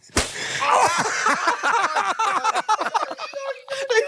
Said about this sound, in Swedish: Ja, då blir det en smäll här på höger hand. Ett, två, tre.